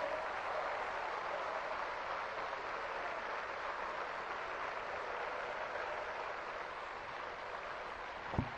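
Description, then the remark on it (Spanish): An audience applauds the Lord in a steady, unbroken wash of clapping that holds at an even level for several seconds, with no voices on top. “¡Den un aplauso, Señor!”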